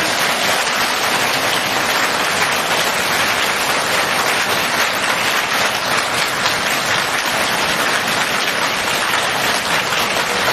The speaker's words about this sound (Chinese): 现在尊敬的卢军宏台长将为我们慈悲开示，让我们用最热烈的掌声恭请我们尊敬的卢军宏台长。